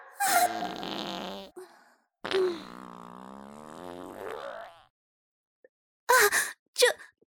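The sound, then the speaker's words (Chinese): Two long, loud, buzzy farts with a wavering pitch, the second stretching over several seconds, followed after a pause by two short, sharp bursts, from a person in a wedding dress suffering stomach pains; no talking. “放屁的声音居然那么大，被别人听到了，太丢人了。”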